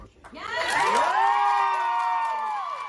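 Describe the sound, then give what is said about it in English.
A crowd bursts into loud cheering, with many overlapping high-pitched shouts and whoops that rise quickly and hold steady for a few seconds, after a Texas House committee approved a bill raising the age to buy an assault rifle from 18 to 21. “Cheers erupted after a House committee approved one of the session's most followed bills to raise the age to buy an assault rifle from 18 to 21.”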